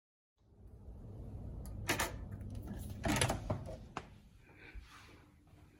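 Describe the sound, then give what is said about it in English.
Sliding doors rumble along their track, with a few sharp knocks and clunks as they are pushed open and shut; no one speaks. “It's got nice sliding doors.”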